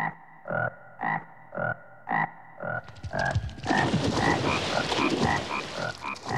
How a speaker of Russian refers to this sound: А по ночам они начали пронзительно квакать. Кваканье всех лягушек сливалось и превращалось, как казалось маленьким коротышкам, в какой-то жуткий скрежет.